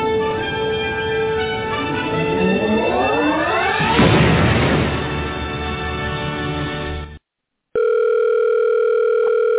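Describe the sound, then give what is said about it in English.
A telephone tone sounds loud and steady after a brief silence, following a rising electronic sweep that swells into a noisy whoosh, before an answering machine message for the Q Continuum. No one speaks. “Hello, you have reached the Q Continuum. We are unable to get to the phone right now because we are busy living in a plane of existence your feeble mortal mind cannot possibly comprehend.”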